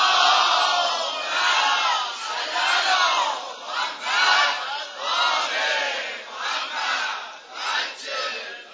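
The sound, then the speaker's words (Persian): A large crowd loudly chants salawat in unison, voices rising and falling in repeated rhythmic waves that fill the whole clip with no single speaker standing out. “صلوات فرست بلند و لال نمیران ان شاء الله.”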